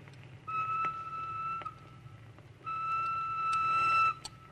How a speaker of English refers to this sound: What is that whistle? Just the train. Where does it go? To Marseille. And from there? Across the border to Spain.